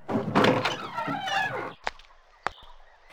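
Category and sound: household object, door opening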